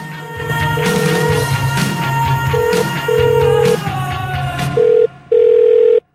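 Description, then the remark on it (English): A house telephone sounds a series of steady electronic tone beeps, starting and stopping irregularly, fairly loud, over a dense, humming background. “George hangs up his house phone and moves downstairs”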